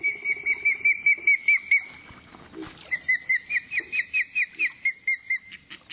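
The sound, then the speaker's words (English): Juvenile ospreys, large fish-eating hawks, call for food at a remote lake in northern Ontario in a steady series of high, whistled chirps, about three or four per second, breaking off briefly midway before resuming just as loudly. “Hear their juveniles calling for food?”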